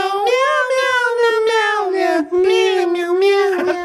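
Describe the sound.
A person sings a tune in loud, nasal meows, imitating a cat, with each drawn-out 'meow' syllable flowing into the next in a steady melodic line.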